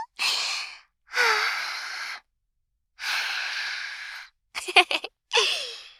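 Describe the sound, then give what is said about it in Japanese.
Slow, airy breaths of a woman blown toward the listener, about four long exhales separated by pauses, with a short stuttering, choppy puff near the end. No talking. “お姉様のありがたーい吐息だ”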